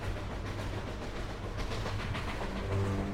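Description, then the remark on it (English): A steady, loud rumble of a moving train, with rattling carriage noise and a low mechanical hum running throughout. No one speaks. “I can crash a train into Orion.”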